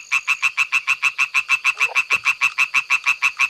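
A European tree frog calls in a rapid, steady series of loud, raspy pulses, about five per second, clear with no talking over it.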